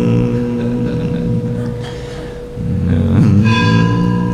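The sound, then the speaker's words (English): A large bell rings with a deep, humming resonance that sustains throughout, then is struck again partway through, its bright overtones blooming and lingering loudly with no talking. “Beautiful bell. Can you hear the rings a long time?”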